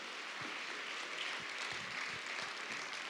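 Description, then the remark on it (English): An audience at Mountain Park Church claps steadily to welcome people coming up to share, a dense wash of many hands applauding at an even, sustained level, with no voices standing out. “So why don't we give them a round of applause and welcome them.”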